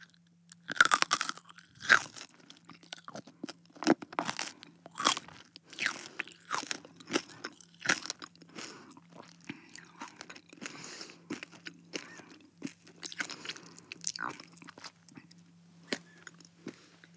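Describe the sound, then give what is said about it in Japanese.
Crisp crunching and chewing repeats steadily for several seconds, with sharp bites breaking through and a soft low hum beneath; no one speaks. “このまま食べちゃうね。”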